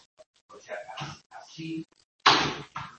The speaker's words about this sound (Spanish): ¿Me vais a perdonar que cierro la puerta?